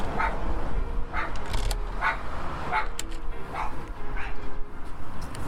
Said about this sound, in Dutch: Zodra hij blaft, weet ze dat er iemand aan de deur is. Want zelf hoort ze de bel niet.